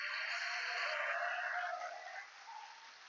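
A church audience claps together in a dense, steady burst of applause that holds for a few seconds, then thins slightly toward the end. No one speaks over it.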